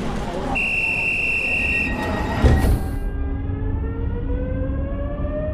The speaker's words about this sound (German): Achtung, Zug fährt ab. Bitte alle einsteigen.